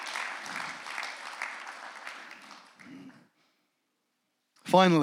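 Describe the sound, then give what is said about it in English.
An audience applauds the Lord with dense, steady clapping that fades out after about three seconds, followed by a brief silence before a man's voice begins speaking. “Give the Lord an applause for that one.”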